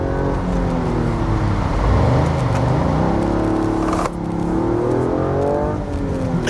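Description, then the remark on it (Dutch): A Toyota GR Yaris car engine revs and accelerates up through the gears, its pitch sweeping upward with a brief shift drop midway, loud with steady road noise underneath and no talking. “Ja, de GR Yaris is dan ook wel echt een auto waarin je lekker aan de bak kunt.”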